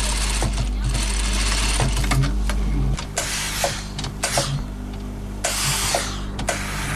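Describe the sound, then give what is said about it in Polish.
Sewing machine needles clatter in a fast, steady mechanical rhythm, fairly loud, with a constant motor hum underneath and brief sharp clicks and hisses breaking in, as working sewing machines run in a tailoring workshop. “Zaledwie kilka ulic od miejsca, gdzie można naprawić maszynę, słychać stukot igieł działających urządzeń.”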